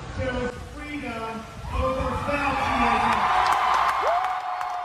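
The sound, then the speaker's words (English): Ron DeSantis speaks over a noisy crowd at a large concert in Florida, then the crowd swells into loud, sustained cheering with whoops and shouts that build and hold through the end. “DeSantis told the cheering crowd it was only possible because Florida.”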